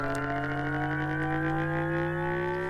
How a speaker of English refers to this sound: So we ran a number of synthetic engine tests. And this is.